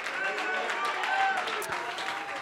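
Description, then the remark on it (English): An audience clapping hands and shouting hallelujah together, a dense, steady wash of claps and raised voices that stays fairly loud and unbroken throughout. “If you believe he's going to do a work, would you just clap your hands one more time and would you shout hallelujah?”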